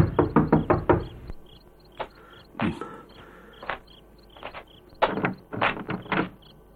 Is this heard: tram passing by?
no